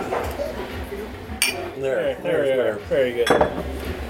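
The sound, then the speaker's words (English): Water glasses clink together in a toast, two bright, sharp chimes a couple of seconds apart, with people talking in between. “Let's try to get a good clinky.”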